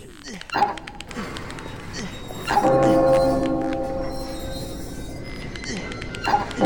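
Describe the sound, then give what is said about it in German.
A large bell rings out loud, struck three times at uneven intervals by its clapper, which is swung by a rope tied around it, each heavy clang leaving a long, droning hum that overlaps the next. “Und dann den Klöppel zum Pendeln bringen, damit er an die Glocke schlägt.”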